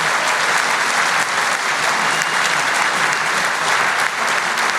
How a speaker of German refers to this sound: Jetzt kannst du dich feiern lassen. Das ist dein Applaus.